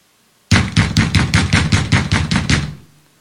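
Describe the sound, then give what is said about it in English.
Loud, rapid knocking, about a dozen hard raps in a steady, quick rhythm, with no one speaking, ending with a brief ringing decay. “Sometimes you'll go through problems and heartache and difficulty. He knocks louder.”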